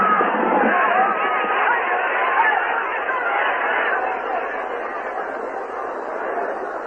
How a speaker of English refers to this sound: The tombi drew nearer the square. The crowd cried out in fury.